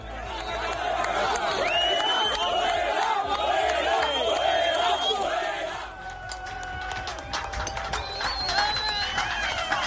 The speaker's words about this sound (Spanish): Los tractores han tomado la A45, la autovía que une Córdoba y Málaga a la altura de Lucena. Durante varias horas el tráfico ha permanecido cortado por los trabajadores del campo que protestaban por las condiciones a las que está sometido su sector.